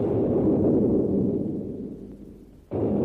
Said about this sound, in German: Und tatsächlich mussten sie es gesehen haben, denn bald hörte ich wieder einen Schuss und darauf noch mehrere andere.